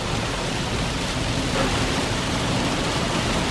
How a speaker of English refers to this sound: Speaking of chaos, though, I just want you to hear the sound of the rain on the window right now because it's really intensified. Listen to this.